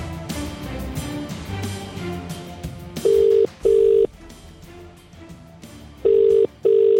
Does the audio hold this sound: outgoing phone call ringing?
yes